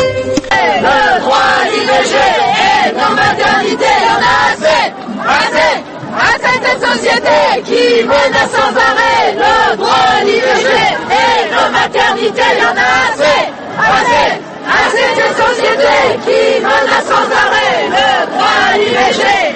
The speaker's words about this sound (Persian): این صدای فریادهای زنان فرانسویه که به زنان جهان یادآوری میکنن که نگه داشتن حقی که پیش از این به دست آوردن چندان هم آسون نیست.